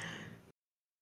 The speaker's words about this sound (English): I know you're going to hear my babies. They're all snoring, so sorry about that, guys. I could tell you're going to hear it, so it's very loud.